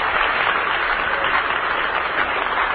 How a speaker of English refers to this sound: Let's send them a cheer from the Hollywood home base. Have a good time back there.